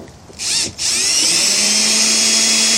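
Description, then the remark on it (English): A power drill whirs steadily, driving a screw back in, outdoors on a cold, rainy day of about 35 degrees in South Louisiana: a brief burst, a short pause, then a sustained high whine with a low hum that rises slightly in pitch as it runs, no voices. “Okay, and now put the screws back in.”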